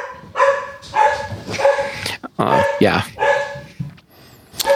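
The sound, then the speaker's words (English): A dog barks repeatedly in short, loud bursts as someone arrives, with a person's voice briefly speaking over the barking. “So that barking dog means that someone is here to pick up Eve”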